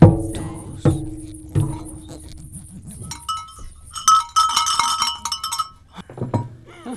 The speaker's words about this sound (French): C'est que si on cumule tous les coups de cloche que donne l'église dans la journée, ça en fait quand même 336. Parce que à l'heure ça sonne deux fois, la demi-heure ça sonne une fois